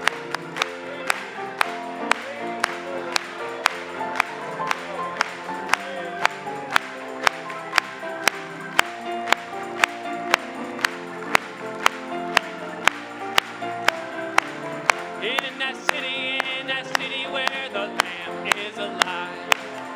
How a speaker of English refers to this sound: Let's clap it to him.